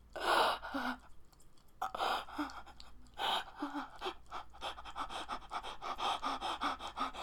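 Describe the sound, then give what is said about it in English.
Fast, heavy breathing: a steady run of loud, breathy pants in quick rhythm, each exhale a rough airy rush, continuing without any talk. “My breathing getting faster.”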